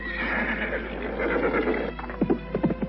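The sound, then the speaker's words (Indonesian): A horse carrying two riders whinnies loudly and at length, then a few quick, rhythmic hoofbeats thud as it sets off at a run along a footpath. “Kuda yang ditunggangi Restu Singgih dan Nilam Cahya melaju di jalan setapak.”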